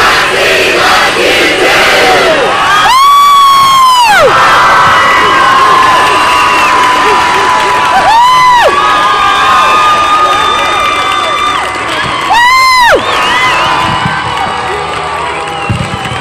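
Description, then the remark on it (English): A large crowd of students at Scott Community High School in Scott City shouts and cheers loudly and steadily for over fifteen seconds, giving a shout-out to Ron Baker and releasing balloons, with a few shrill, rising-and-falling whistle-like squeals cutting through the roar. “So on the count of three, we're going to give a shout out back to him that says, Ron Baker, Scott City loves you too.”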